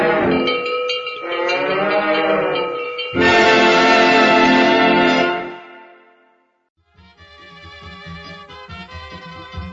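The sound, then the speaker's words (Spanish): A cow lets out two long, loud moos back to back, then after a brief quiet a cowbell clanks steadily with softer lowing underneath. “Bueno, la vaca ya estaba simpática, la verdad.”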